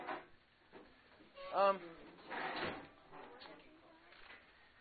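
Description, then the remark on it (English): A door swings shut partway through with a dull thud, amid quiet background noise and brief bits of voice. “Either way, can you shut the door, though?”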